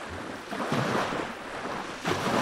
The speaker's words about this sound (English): I encourage everyone to visit this beautiful place when they come to Van. The Muradiye waterfall is a must-see place in this region.